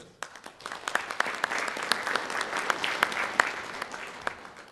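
An audience applauds steadily after a speech by a speaker from the union Fellesforbundet, many hands clapping in a dense, crackling wash with sharp individual claps standing out, swelling after a quiet start and holding at moderate loudness.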